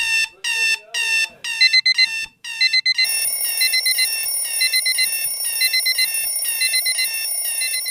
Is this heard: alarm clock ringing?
yes